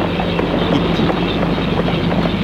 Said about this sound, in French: L'orage est très fort.